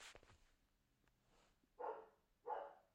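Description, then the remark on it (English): A dog that wants to come into the kitchen barks twice, two loud, evenly spaced woofs after a brief scratchy noise and a quiet pause, with no talking. “And the dog wants to come into the kitchen.”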